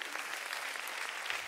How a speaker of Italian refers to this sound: Venite, venite, un applauso! Grazie al coro! Un applauso al...